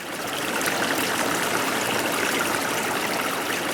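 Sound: running stream water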